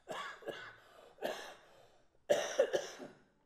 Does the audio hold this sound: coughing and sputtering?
yes